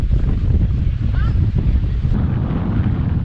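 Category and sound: nature, strong wind blowing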